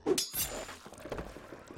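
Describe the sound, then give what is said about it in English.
Footsteps crunch over broken glass in a small jewelry store, with two sharp glassy clinks at the start followed by softer, scattered scraping and tinkling as the steps continue. “As you can see, I'm just walking on some broken glass.”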